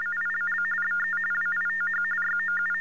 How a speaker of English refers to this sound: I think the problem was it heard silence, so it assumed that nothing was there, and TDDs generate tones, so my voice was taken as a TDD machine.